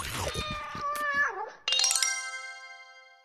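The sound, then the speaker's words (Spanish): A cat lets out a drawn-out, wavering meow that bends downward, then a bright bell-like chime strikes and rings out, slowly fading. No one speaks. “Se convirtió en ratón y de inmediato el gato se lo tragó.”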